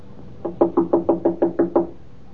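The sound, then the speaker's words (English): Eight firm knocks rap on a wooden apartment door at the head of the stairs in a quick, even series, fairly loud, with no voices around them. “Open the door, Miss Judson. Looks like she's gone out.”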